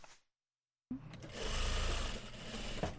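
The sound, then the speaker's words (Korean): Sewing machines whir steadily after a brief silence, a dense mechanical hum with fine rapid stitching pulses, fairly loud, as about ten workers, North Korean defector women, run sewing machines in a small garment factory in Geumcheon-gu, Seoul. “이곳에 10명 정도 되는 직원들이 열심히 재봉틀을 돌리면서 일하고 있습니다.”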